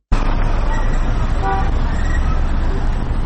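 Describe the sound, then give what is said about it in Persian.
Busy street traffic on the roads of Kabul, Afghanistan, on the second day of Eid al-Adha during a ceasefire, rumbles steadily with a loud, continuous low roar, while short car horn toots sound over it, including a clear high honk in the middle. “خبرنگار رادیو آزادی به جاده‌های کابل رفته و نظرات را در مورد دومین روز آتش بس طالبان و دولت پرسیده است”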